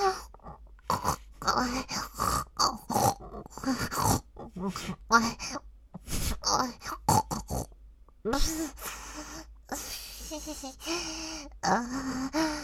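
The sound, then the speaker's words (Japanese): A person imitates a pig, snorting hard through the nose in rapid, irregular bursts mixed with grunts and breathy gasps, loud, with no talking. “豚鼻鳴らして、おちんかすを鼻からいただけるなんて、やべえですわ。”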